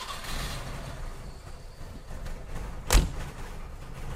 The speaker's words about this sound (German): Schön. Auch diese leicht pappige Tür. Ja, unverkennbar. Und dieses Gerassle. Ja, da hatte ich das Glück. Das war nachts auf einem Parkplatz vor der Metro. Und da fuhr einer der letzten Kunden mit dem Ding weg.